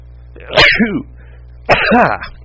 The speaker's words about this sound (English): Hey, now I'm just sneezing. I blame the cat.